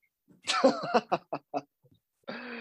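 A person coughs and splutters in a rough, voiced burst that breaks into several short choppy gasps, then a brief pause before one more harsh, breathy cough.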